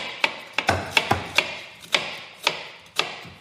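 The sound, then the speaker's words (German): A series of sharp knocks on a surface, around nine taps in irregular succession, as garlic cloves are crushed, each with a brief ringing decay and no voices. “Markus klopft jetzt den Knoblauch an.”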